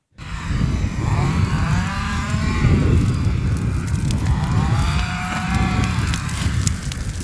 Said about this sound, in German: Die einen hacken Holz, andere sägen Latten zu, um daraus Hütten zu zimmern. Am Rand ein großes Lagerfeuer.